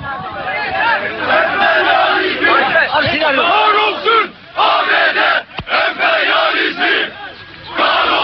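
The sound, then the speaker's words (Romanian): A loud crowd of about 150 Turkish Communist Party militants chants anti-American slogans in unison while trying to force entry into the port of Iskenderun, Turkey. Voices rise and fall in rhythmic bursts, with a couple of brief lulls before the chanting surges again. “Strigând lozinci anti-americane, aproximativ 150 de militanți ai Partidului Comunist Turc au încercat să forțeze intrarea în portul Iskenderun”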